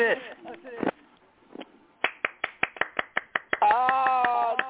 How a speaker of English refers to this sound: Well, there was some applause. That's great. I like that.